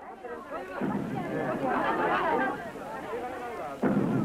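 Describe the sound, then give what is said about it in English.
Two deep, booming thuds, the footsteps of the giant monster Godzilla, land about three seconds apart, heavy and rumbling, over a constant roar of crowd voices and commotion. “Even before you saw Godzilla, you heard his footsteps falling on the earth ominously, shaking buildings and trees.”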